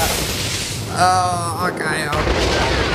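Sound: video game explosion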